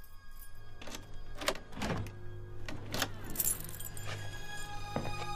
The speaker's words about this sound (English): The door to Larry's apartment is opened.